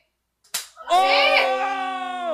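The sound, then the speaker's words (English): A single sharp, hard, real slap cracks out, followed almost at once by a loud, drawn-out vocal cry that holds for the rest of the moment. “Hey, the last slap is hard.”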